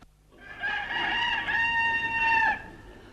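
A rooster crows once, a loud, drawn-out cock-a-doodle-doo lasting about two seconds, its bright, reedy tone rising slightly and holding steady before cutting off, with no voices around it.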